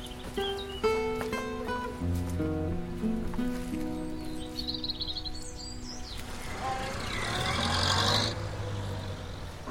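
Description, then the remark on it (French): The doctor's car engine hums and revs, its rumble swelling into a louder whoosh before easing off as the vehicle drives away, with faint bird chirps around it and no talking. “Ça, c'est le docteur qui s'en va. Il sera venu pour le plâtre du capitaine. Mais à qui diable est cette autre voiture?”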